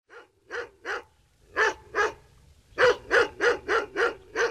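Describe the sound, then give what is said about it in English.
A dog chasing a fleeing cat by a haunted house barks in quick, sharp bursts: three barks, a brief pause, two more, then a rapid run of six close together, loud with no one speaking. “Irwin, the cook's cat, whose name is Srodi, fleeing from a dog by the root of the haunted house.”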